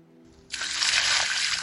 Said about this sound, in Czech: Oblila mě studená voda. Lekl jsem se a posadil se.